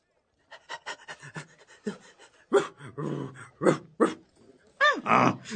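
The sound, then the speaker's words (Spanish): An old hunting dog pants in quick, rhythmic breaths, the huffs growing louder and heavier, with a short whining yelp near the end. “Oye, perro, ¿por qué jadeas así?”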